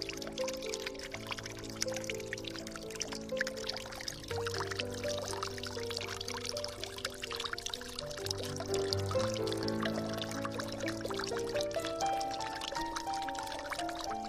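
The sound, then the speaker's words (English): Water trickles and splashes steadily from a black granite fountain, a sculpture by Welton Roats titled The River Within, at the center of a garden behind an original manor house; a continuous flow, with soft sustained musical chords playing underneath and no one speaking. “But while we're here, at the back of the original manor house, spend a moment beside the black granite fountain at the center of the garden.”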